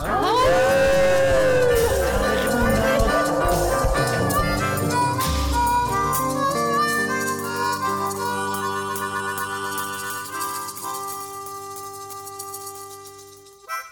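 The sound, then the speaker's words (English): A group of people on a Moondog Show radio program howl together at the moondog like dogs on a count of three, a loud jumble of overlapping, drawn-out wavering voices that slide in pitch, holding for several seconds before thinning out and trailing off. “And we all gonna howl at the moondog on a count of three.”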